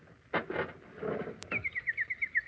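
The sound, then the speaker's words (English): A nightingale sings a quick run of bright, evenly spaced whistled notes, clear, after a few soft rustling thumps at the start; no one speaks. “Do you hear? Listen. My little nightingale. She has come back to me.”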